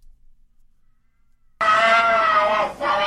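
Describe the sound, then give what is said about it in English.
After a moment of silence, a loud, strained, high-pitched scream erupts and holds for over a second, breaking briefly before continuing, like a person shrieking during an exorcism. “You are correct. It is an exorcism.”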